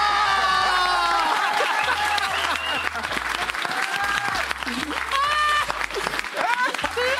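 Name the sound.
audience applauding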